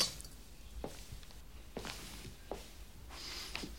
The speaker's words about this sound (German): Karl stellt Lien das Haferl hin.